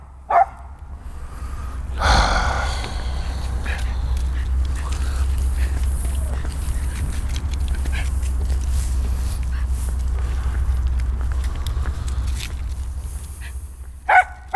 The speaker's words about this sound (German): Schnauze. Was gibt's denn da zu bellen? Da ist nichts. Nicht mal ein beschissenes Eichhörnchen.